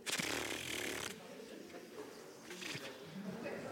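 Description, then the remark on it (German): A loud, breathy rustling hiss, like wind stirring reeds, grass and poplar leaves, apparently voiced by people imitating it. It drops after a second, then returns in softer, uneven whooshing swells. “Das Ried. Schilf. Gräser. Die zitternden Pappeln. Und das Geräusch dazu.”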